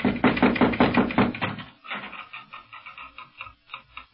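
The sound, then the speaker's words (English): A quick series of about six firm, evenly spaced, loud knocks on a house door on a Moorish street in Morocco, followed by a softer, sparser run of taps that fade out. “No, but here, let me knock.”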